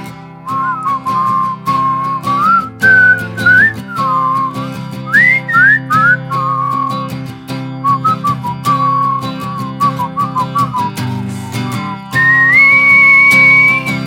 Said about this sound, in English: Sometimes it's hard. Everybody whistle.